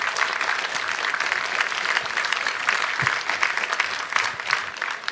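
Sustained audience applause welcoming a speaker before a talk, a dense steady patter of many hands clapping at even loudness throughout, with no voices standing out above it.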